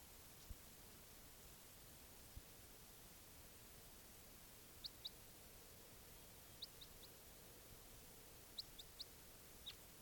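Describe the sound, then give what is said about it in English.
Two birds give brief, high-pitched chirps in scattered pairs and singles during testing, over a steady hiss of background noise, with short gaps between calls and no talking. “Testing again, both birds.”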